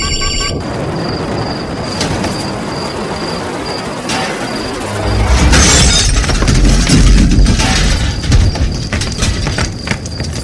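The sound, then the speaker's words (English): A crash of SCAS Shuttle 237 after it has lost its engines and is going down: a steady roar with an intermittent high-pitched altitude warning beep, then a loud impact midway as glass shatters and a heavy, crunching rumble swells and continues. “We have lost engines and are going down, over.”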